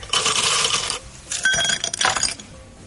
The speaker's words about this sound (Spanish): Vamos a ver, un sonido del verano. Es un sonido de echar hielos en un vaso.